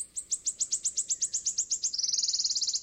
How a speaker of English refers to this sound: The wood warbler has its mouth open, calling out.